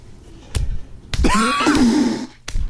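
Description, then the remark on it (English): Three sharp, wet slaps from a licked hand, loud, meant to sound like a person being slapped with a wet fish; between the second and third a brief sliding vocal sound rises and falls. “The person slapping me with a wet fish because they thought that would get me up quicker.”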